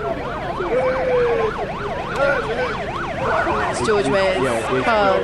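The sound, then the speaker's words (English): Multiple vehicle sirens wail loudly with fast, overlapping up-and-down yelps as George Weah's motorcade passes through the city, with road and engine noise underneath. “George Weah's car going past now.”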